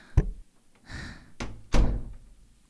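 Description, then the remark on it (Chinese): A door is knocked on and opened: a sharp knock-like thump, a rattling latch, then two heavier thuds as the door swings open and bumps, with no voices. “你怎么才开门呀？”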